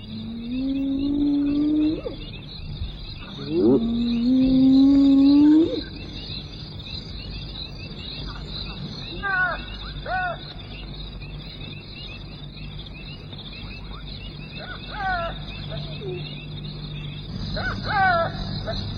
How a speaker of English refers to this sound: Presumptuous jackal tries to take a share. But the lion chases him away, and those frustrated pallbearers, the hyena and the jackal, set up a mournful chorus.